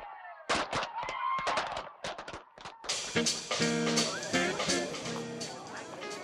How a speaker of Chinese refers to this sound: 你觉得今日的烟花点话？ Well, I guess they were okay, but I was hoping that they would be better. 你觉得还可以更好啲？但系我觉得佢已经好好噶啦噃。